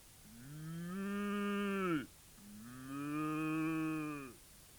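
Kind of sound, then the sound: animal, cow mooing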